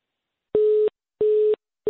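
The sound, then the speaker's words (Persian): A telephone busy tone after a phone call drops: a steady, mid-pitched electronic beep pulsing on and off in a quick even rhythm, about three short bursts with silence between, clear and alone with no voices. “بله تلفنم بیرته قطع شد.”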